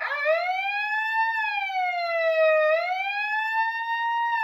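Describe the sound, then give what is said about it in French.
A loud, piercing alarm siren wails continuously, its pitch rising and falling slowly in long sweeps, overwhelming, with no voices, making the walls vibrate. “Enfin, les bips de mise en garde s'interrompirent et le hurlement assourdissant d'une sirène fit vibrer les murs.”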